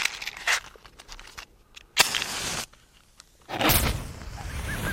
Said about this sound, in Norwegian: Så jeg lurer bare på, dette her ble kanskje litt lengre enn jeg trodde, så jeg lurer på om jeg skal fyre i peisen.